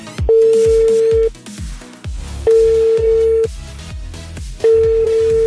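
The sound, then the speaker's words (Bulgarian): A radio station's outgoing call to a listener for its Energy Vacation prize draw rings out, three steady ringback tones about a second long each, evenly spaced, with no answer, over a rhythmic music bed. “В никакъв случай не прави като Стефани, ако ти звъни непознат номер, а някой те е регистрирал или ти самия си се регистрирал за Енерджи вакансия с любимата радиостанция.”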